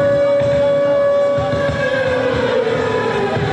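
Air raid sirens wail loudly and continuously, marking the start of a humanitarian concert for Ukraine in Belgrade, a steady sustained tone that begins to sag downward in pitch toward the end, over a dense low rumble with no voices.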